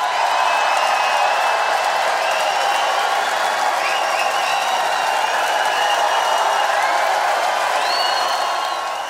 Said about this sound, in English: And of course, that extended period of cheering was when a giant portrait of … was shown in the theater, everyone in the audience paying tribute as the band was.